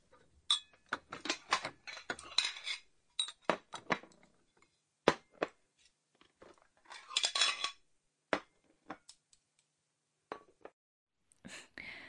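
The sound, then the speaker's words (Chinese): Bowls and chopsticks are set onto a table in a series of sharp clinks and taps, irregular, with brief pauses between placements and no talking, while the table is being set for a family meal. “行了，别学了啊，现在帮妈妈把碗筷摆一下。”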